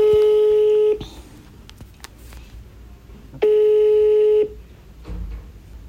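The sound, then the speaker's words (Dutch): An outgoing phone call to a father rings on the line: two steady, mid-pitched electronic ring tones, each about a second long, separated by a pause filled with faint background noise. “Ik bel elke week met mijn vader.”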